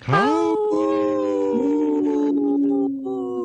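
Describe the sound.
A person imitates a wolf howl: one long, loud vocal tone that swoops upward at the start, holds a steady mid pitch with slight wavering, then dips slightly and fades.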